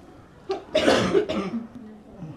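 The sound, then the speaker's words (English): A few harsh coughs in quick succession, the loudest one in the middle, fading into a quieter raspy breath afterward. “Everyone's got a cough. Everyone's coughing.”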